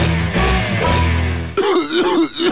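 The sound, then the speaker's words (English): A loud, raspy hacking cough with harsh throat-clearing, then a strained, wheezy groaning vocal sound. No speech. “Sounds like you got a nasty cough.”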